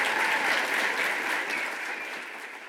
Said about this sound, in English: Let's give another round of applause to Diane Ravitch.